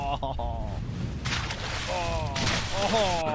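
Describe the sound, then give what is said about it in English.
A video game bike crash effect: two noisy bursts of crunching sound mixed with warbling, wavering electronic tones that rise and fall over a few seconds. “Oh, I just crashed and am going to go splat.”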